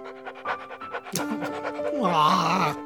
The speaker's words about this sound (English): Hey, guys, are you seeing this? The puppy's giving me one last kiss. Oh, you're so cute. Goodbye, puppy. I love you.